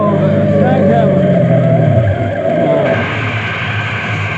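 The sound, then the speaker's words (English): A car engine winds down in pitch as the vehicle slows hard, tires faintly skidding, then settles into a low idle rumble; the sound is loud throughout. “Stop this car.”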